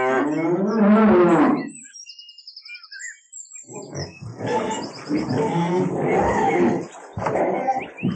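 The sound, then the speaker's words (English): Cows on a farm: one lets out a loud, drawn-out moo, followed by a pause and then a longer stretch of rougher, grumbling cow noise with no one talking. “Look at these.What are they? They're cows.”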